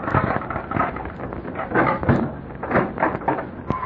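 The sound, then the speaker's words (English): A door is thrown open with a series of loud knocks and rattling wooden clatter, lasting a few seconds with no voices. “I sure am, and I'm going to throw open the door.”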